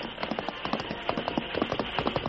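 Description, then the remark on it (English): A horse, the great horse Silver, gallops hard as its rider urges it on to close the distance to a train. Its hoofbeats land in quick, rhythmic clusters of sharp thuds over a steady rushing noise, staying loud and driving throughout with no voices. “He urged the great horse Silver to further effort.”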